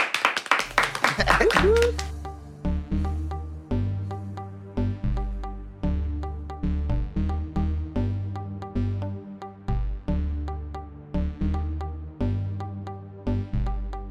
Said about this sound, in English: And last but not least, at number 1, round of applause, ladies and gentlemen,